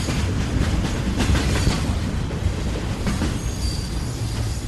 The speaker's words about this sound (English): a locomotive from the Norfolk Southern climbs a steep grade as it crosses the hills of north central Massachusetts. It's hauling freight through the small city of Gardner, and then over the hump, then down toward Boston.